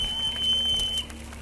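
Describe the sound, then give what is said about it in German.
A thin, modest whistle of the Spanisch-Brötli-Bahn steam locomotive in Baden, 1937: one steady high-pitched tone held for about a second, then cut off, over a low continuous rumble. “Dieses schamhafte, bescheidene Pfeifen? Das ist der Pfiff der Spanisch-Brötli-Bahn-Lokomotive.”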